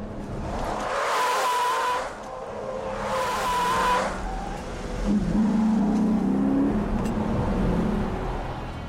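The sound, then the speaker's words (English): A car performs a J-turn: its tires squeal loudly in two sharp bursts as it reverses above 40 miles per hour, then the wheel is cut and it shifts into drive, spinning around in under two car lengths, followed by the engine revving and pulling away, with no talking. “Then, by cutting the wheel and shifting quickly into drive, the vehicle can spin around in less than 2 car lengths.”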